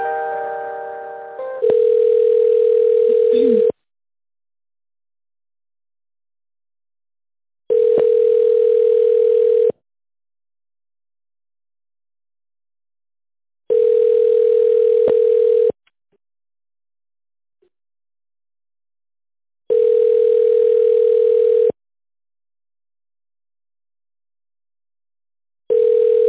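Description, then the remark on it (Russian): A telephone ringing tone while a call to the company Kvarta is transferred to a responsible employee: a steady, mid-pitched buzzing tone sounds in about two-second bursts, separated by roughly four seconds of silence, repeating five times with no voices. “Я сейчас перейду вас на ответственного сотрудника.”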